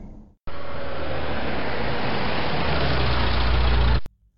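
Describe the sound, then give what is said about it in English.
A car engine runs steadily for a few seconds as the car pulls over into a parking lot, a dense rumble with road-like hiss that swells a bit lower toward the end, then cuts off abruptly. No one speaks. “Stop the car, please. Pull over into that parking lot.”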